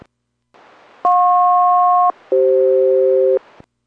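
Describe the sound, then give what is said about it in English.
An aircraft SELCAL chime during a radio check between Boeing 480 and Boeing Everett: two steady electronic tone pairs, each lasting about a second, the second lower in pitch than the first, loud over a faint radio hiss, with no talking. “Boeing Everett, Boeing 480, another radio check, standing by for chimes, so I'll call.”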